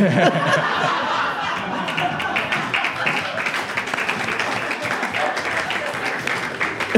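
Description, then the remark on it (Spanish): A large audience applauds steadily for about seven seconds, a dense wash of clapping mixed with crowd murmur and some laughter, loud and continuous without a break. “Los principales aplausos fueron un chiste de pedofilia y sexo anal, mae.”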